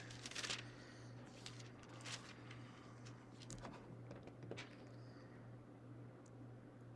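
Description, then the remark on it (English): Soft, papery rustles and flicks of Bible pages being turned back to the Book of Matthew, several quick riffles spread across a few seconds, fairly faint over a steady low electrical hum, with no one talking. “If we shoot all the way back to Matthew. I believe it's Matthew. You guys are going to get paper cuts today.”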